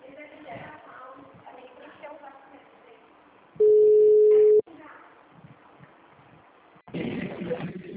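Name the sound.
telephone ringing tone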